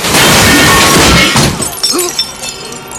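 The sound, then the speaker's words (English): A loud crash as a big lilac car smashes through a shop's plate glass window and brings down the shop frontage: shattering glass and breaking structure, followed by scattered tinkling debris and clattering fragments settling as the roar fades. “It smashes through a plate glass window, bringing down a shop frontage.”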